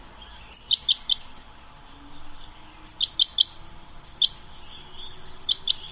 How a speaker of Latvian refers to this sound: No rītiem skan optimistiska zīlīšu čivināšana.